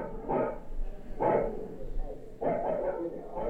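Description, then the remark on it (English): A dog barks three times in spaced bursts behind a closed apartment door, muffled, heard by someone eavesdropping at the door, with a low steady rumble underneath. “Behind another is a dog.”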